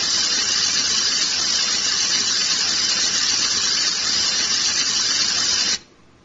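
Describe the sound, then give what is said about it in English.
A loud, steady simulation of the tinnitus sound called buzzing, with a harsh, hissy texture, drones without change for nearly six seconds, then cuts off abruptly. No one speaks. “Buzzing.”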